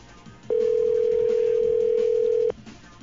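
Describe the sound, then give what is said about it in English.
A single steady ringback tone from a telephone line, calling a payphone after redialing, sounds for about two seconds, clear and fairly loud over faint line hiss, with no talking. “Now, this is supposed to be a payphone. Yeah, it's what is listed. Three rings.”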